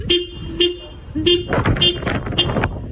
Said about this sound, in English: A dog in Ireland, apparently annoyed by the wait, jumped in the driver's seat and just kept laying on the horn with some moral support, it seems, from another furry friend in the back.